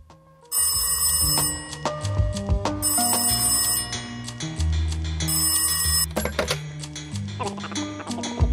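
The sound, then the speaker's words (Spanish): A loud telephone bell rings in three long bursts with short pauses between them, bright, with a low musical bed running underneath. “Així que simplement li he dit a un amic que si arriba una nova pandèmia o una altra cosa, com per exemple troben vida intel·ligent a Mart, doncs que em cride per telèfon.”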